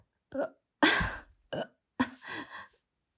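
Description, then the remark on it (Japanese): A fairly quiet burp stands out among a few short throaty bursts spread over about three seconds, with no talking; the person is drinking a cherry-flavoured beer of 3.5% alcohol. “さっき言っちゃったんだけど、ちょっとゲップ出る。”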